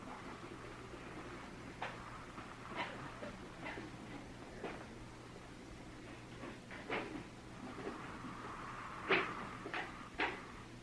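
Chairs being carried in and set down, a series of irregular wooden knocks and light scrapes at moderate distance, with one sharper clunk near the end and no talking.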